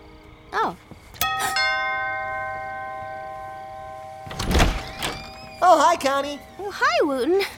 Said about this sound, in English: Did you know that your doorbell rings outside? Oh, sure. That way people will know it's working. Otherwise, you push the button and it rings somewhere way back in the house and you can't even hear whether or not it rang at all. This way you know.